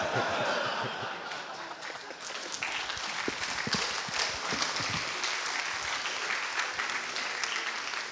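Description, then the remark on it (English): A crowd applauds steadily, with dense, continuous clapping that holds a fairly even loudness for several seconds, mixed with a few scattered chuckles. “Why do you applaud for me being confused?”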